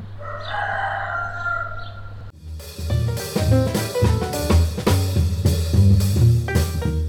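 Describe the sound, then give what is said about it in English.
A rooster crows once in a long, strained call over a steady low hum, then music with a strong beat abruptly takes over for the rest. “thanks to the sound of that pompous, marginally useful bird, the rooster.”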